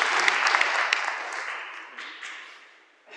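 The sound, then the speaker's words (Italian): A crowd at an evening meeting on the Jubilee breaks into warm welcome applause, dense clapping that starts strong and gradually thins and fades over about three seconds, with a brief swell of claps at the very end. “Allora facciamo un applauso di benvenuto, un saluto e buon incontro.”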